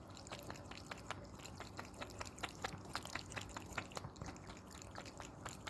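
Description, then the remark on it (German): Mogli the cat laps water from its pet fountain in a kitchen, quick wet flicks repeating steadily a few times per second over the constant soft trickle of running water. No one speaks. “Kannst du mal kurz aufnehmen, wie der Mogli Wasser schlägt?”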